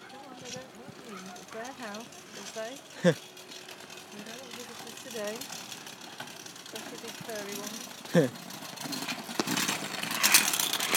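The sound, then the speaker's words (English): A low, steady engine rumble from a vessel with quite a big engine drones faintly somewhere out on the water in thick fog with no visibility, while people talk over it and a couple of sharp knocks break through. “It sounds like something with quite a big engine out there somewhere.”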